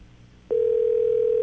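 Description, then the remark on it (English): A telephone line tone starts abruptly after a brief pause and holds as one steady, loud electronic hum, like a call ringing through on the other end, with faint background noise beneath. “Pick up the phone.”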